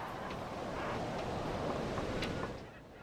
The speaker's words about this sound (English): It's a windy morning. There's a thick, dark layer of fog rolling in from the east. Signs are being blown down as he introduces me to the locals.